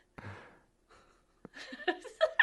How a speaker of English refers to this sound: Heavy breathing.